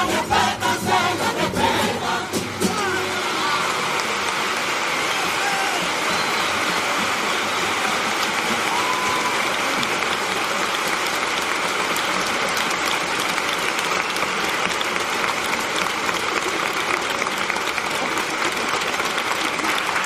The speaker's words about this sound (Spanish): Nada, en pie para aplaudir este tango.